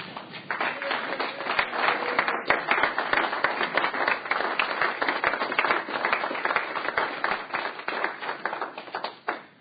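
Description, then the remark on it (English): A steady burst of applause and cheering at a legislative session, welcoming a group of dental hygiene students from LCCC in the gallery; dense overlapping claps running for several seconds at an even loudness before trailing off at the end. “Please stand up, and we'll cheer for you.”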